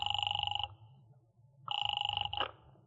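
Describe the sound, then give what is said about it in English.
A telephone rings in two loud electronic bursts, each a steady two-tone trill about half a second long, separated by a pause of silence with a low hum underneath. “Calling up a very nice young lady named Gloria Hunt, whom I just happen to be with at 9 o'clock in town.”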